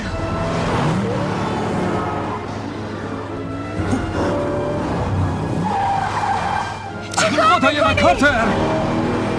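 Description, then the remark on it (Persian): The rattling engine of an old, beat-up car drones steadily as it is driven recklessly, then tires screech loudly in a wavering skid for the last couple of seconds, with voices faintly under the noise. “من خودم اونجوری که دوست دارم رانندگی میکنم. اونم با این ماشین قراضه؟”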